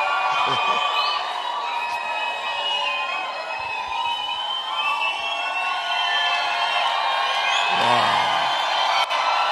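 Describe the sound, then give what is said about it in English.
A large church audience shouts and cheers together in a dense, sustained roar of many voices, loud throughout, with scattered higher whoops rising above the crowd noise. “You are shouting.”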